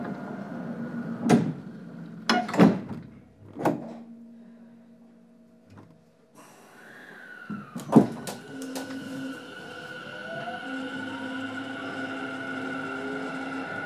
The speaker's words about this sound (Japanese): 番線ドアが閉まります。ご注意ください。